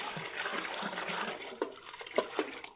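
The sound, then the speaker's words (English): Water from buckets pours and splashes steadily over a sacrifice on an altar for a few seconds, a continuous rushing gush with a couple of louder sloshes near the end, moderately loud, with no voices. “Will you men take those buckets of water and pour them over the sacrifice?”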